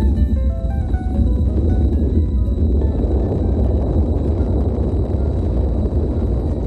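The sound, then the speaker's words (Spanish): A volcanic eruption's deep, relentless roar fills the whole stretch, a loud, dense rumble with a churning, crackling texture and no pauses, though distinct individual explosions are hard to pick out. “85 días escuchando ese rugido, las explosiones, los ríos de lava, el vientre de la tierra indomeñable que se imponía sobre cualquier esfuerzo o cualquier intento de controlarla.”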